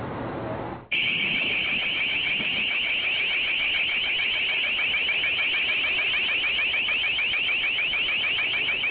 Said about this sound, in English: This is a sound cannon being deployed against protesters at the G20 economic meeting by Pittsburgh police.